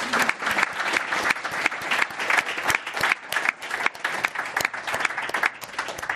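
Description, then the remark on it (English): An audience at a Commonwealth Club program claps steadily and warmly for the panelists' work, dense overlapping applause at a consistent volume for several seconds with no one speaking. “So let's give them a real big hand of applause for all their work.”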